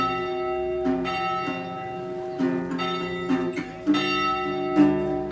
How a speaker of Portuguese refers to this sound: Só por ti os sinos tocam.